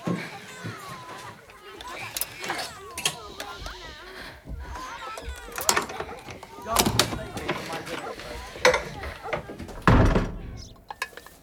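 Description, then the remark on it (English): The door to a studio on a landing is unlocked with a key and opened, with a few sharp knocks and thuds, while voices murmur and chatter throughout in the background. “Greet goes up to the landing and opens the door to the studio with a key.”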